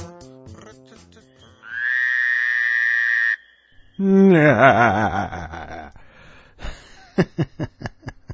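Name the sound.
frog croaking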